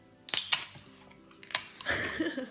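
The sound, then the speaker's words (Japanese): Two bright glass clinks in a toast, spaced about a second apart, in the living room of a camping guesthouse in Tokigawa, Saitama, Japan, with cans of lemon sour and highball opened; light rustling and soft clatter in between and afterward; no one speaks. “ということでちょっと 乾杯しますか。 はい、乾杯したいと思います。”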